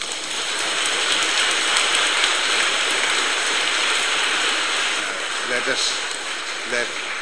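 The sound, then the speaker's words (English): A church audience claps their hands together for Jesus in a steady, dense wash of applause that holds at an even loudness for several seconds, with a few voices briefly rising near the end. “Let us give a clap for that Jesus now.”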